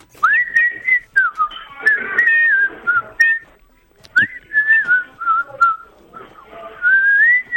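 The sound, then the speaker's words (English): A person whistles a melodic tune, the clear pitch gliding up and down through several phrases with short pauses between them, fairly loud, with no talking. “Okay, are we going to we can just hear, we've clipped out the whistle.”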